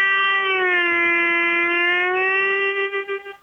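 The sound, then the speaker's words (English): Harmonica player Peter Madcat Ruth plays a single sustained note, reedy and bright, bending it slightly lower in pitch by reshaping the inside of his mouth, then it rises back and wavers before trailing off. Fairly loud, with no talking. “You can take a note like this and bend it to a lower pitch.”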